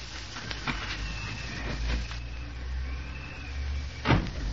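A key rattles and clicks in a lock, a few sharp metallic clicks, then a heavier clunk as the door swings open, all over a low, steady background hum.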